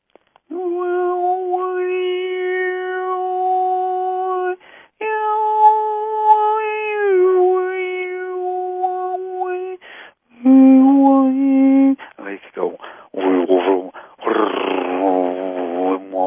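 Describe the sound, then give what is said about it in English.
A single voice imitates the frequency of a pet cat named Joy, drawing out long sustained meow-like tones, then breaking into shorter, wavering yowls and mews near the end, fairly loud. “I'll do the frequency of my kitty cat.”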